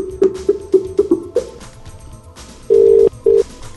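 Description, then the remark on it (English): A quick run of six short electronic dialing beeps as a Skype Out call is placed from a PC to an ordinary landline phone, then a pause and two longer ringing tones of the call connecting, clear with no voices. “we'll make a Skype Out call to an ordinary landline phone”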